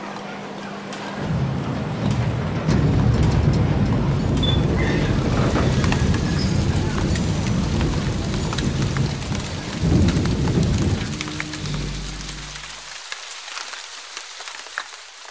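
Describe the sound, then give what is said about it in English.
A heavy rainstorm pours down steadily on a dark, cold, grey night, with deep rumbling thunder swelling beneath the hiss of rain before the low roar suddenly cuts away, leaving lighter rainfall. “The night had come on dark, cold, grey and wetter than ever.”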